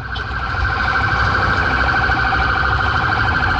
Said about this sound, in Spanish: Vienen ambulancias, como se pueden dar cuenta, los autos cometen por supuesto la actitud de cederle el paso y están pasando todos los vehículos de emergencia en esa dirección.